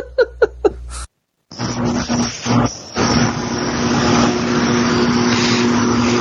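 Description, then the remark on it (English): After a few short bursts of laughter, a loud, heavy engine rumble rises and holds steady to the end, like a massive truck going past outside. “That was like a massive truck going past.”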